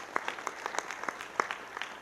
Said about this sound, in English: I just want to clap for those guys.